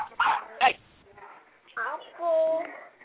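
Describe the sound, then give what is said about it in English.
A person barks like a dog: a few short, sharp barks, then a longer whining, yelping bark, fairly loud, in uneven bursts over a few seconds. “All right, baby daddy's over there barking.”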